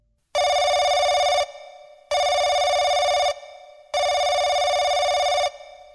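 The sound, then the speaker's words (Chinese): A telephone rings three times from a corner in a steady rhythm, each loud, buzzy electronic trill lasting about a second, separated by short silences. No one speaks. “我想起来了，那些绑匪走之前说他们受到赎金，会有电话打进来的。”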